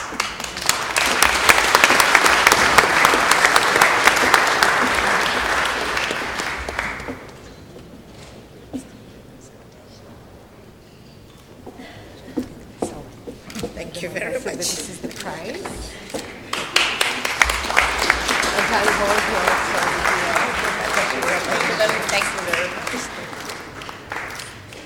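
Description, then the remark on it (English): A crowd applauds loudly for several seconds, dies down to a few scattered claps, then breaks into a second sustained round of dense, steady clapping, applauding the winners of a prize and the Minister of Education of the Sultanate of Oman at a prize ceremony. “I would like once again that we applaud the winners of this so important prize and of course Madam Minister of Education of the Sultanate of Oman.”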